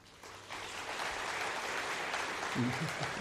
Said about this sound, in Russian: Бурные продолжительные аплодисменты.